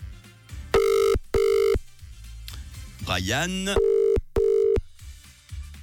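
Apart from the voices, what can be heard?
telephone ringing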